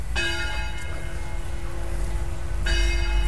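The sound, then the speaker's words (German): Bells of the St. Marienkirche in Bad Segeberg, Schleswig-Holstein, ring out in two clear strikes about two and a half seconds apart, each leaving a long shimmering hum, over a low steady outdoor rumble. “Da erklingen die Glocken der Marienkirche, die wir jetzt auch direkt betreten.”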